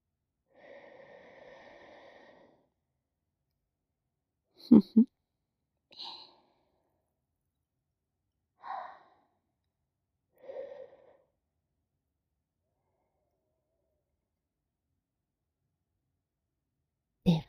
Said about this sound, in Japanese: 左のお耳はいかがでしょう？こちらも優秀なのでしょうか。私の吐息と声を、ご主人様のお耳で受け止めてください。